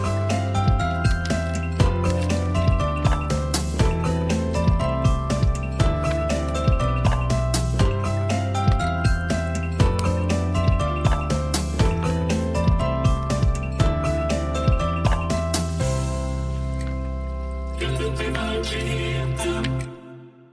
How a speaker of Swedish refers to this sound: Som en... ska signalera att här kommer ett nytt avsnitt. Det är väl definitionen av vignett. Ja. En liten sångbit som spelas i mitten ungefär på ett avsnitt av någonting.